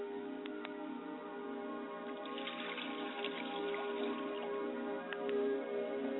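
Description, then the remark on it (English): Liquid is poured out as a libation toward the west in a soft, steady trickle that swells briefly in the middle, over a low constant hum with no voices. “I pour libations to the west, and I say Ashe.”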